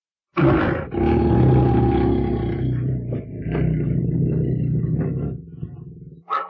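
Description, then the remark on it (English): A loud, sustained roar of lions rumbles for several seconds, deep, fading into lower growling before a brief final snarl at the end. “They are lions.”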